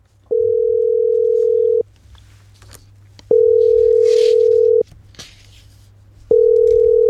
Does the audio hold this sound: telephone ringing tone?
yes